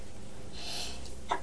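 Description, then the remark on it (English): A small, quiet sneeze: a soft breathy hiss builds up, then ends in one short, sharp burst of air. No one speaks. “Bless you.”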